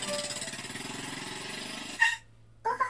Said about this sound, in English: Oh! Your Azoya reacts to the sound of an engine. A motorcycle enters the parking lot. Riding it is Tatsuya. He gives a curt reply and parks his motorcycle.